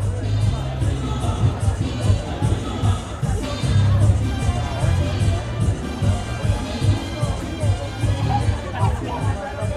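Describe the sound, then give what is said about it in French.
A dense, noisy crowd fills the scene with overlapping chatter, shouts and bursts of laughter, a constant festive din with no single voice standing out and a steady low rumble beneath it. “Je me sens emplie de la joie des gens autour, de cette ambiance de boucan, de bochinche et de rire.”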